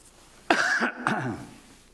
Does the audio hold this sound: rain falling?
no